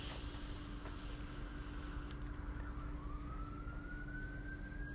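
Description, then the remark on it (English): A fire engine siren rises and wails over a steady low rumble of background noise, growing more prominent toward the end, with no talking. “I wonder if someone is okay because got the fire sirens going on.”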